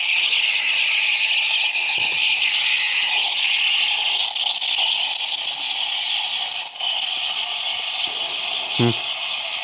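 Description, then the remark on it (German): A continuous high, hissing squeal of a steam nozzle, steaming and letting out moisture, runs steadily through the whole stretch, loud and bright, with a few brief sputtering pops near the end. “So, jetzt geht's direkt zum Dampfen.”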